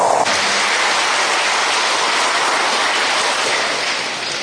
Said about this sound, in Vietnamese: Xin hãy cho một tràng vỗ tay thật lớn để tán dương tinh thần này.